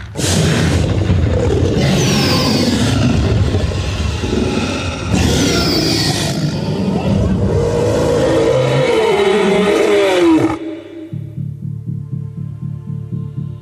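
A truck engine roars and revs hard, with bursts of acceleration and throbbing rumble for about ten seconds before cutting off abruptly to a low, steady hum, as the truck peels out in reverse past a crowd of kids in the film Dead Meat Pete.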